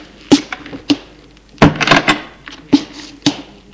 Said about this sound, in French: La porte du salon s'ouvre.